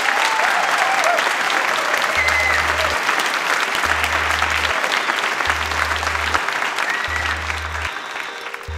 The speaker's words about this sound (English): So I'd like to have a warm round of applause